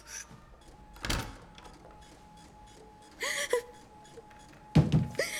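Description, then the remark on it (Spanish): A door is handled: a sharp knock early on, then a rattling latch and a heavier thump as it swings shut, all over a faint steady hum. “No me digas, se ha ido. ¿Por la otra puerta?”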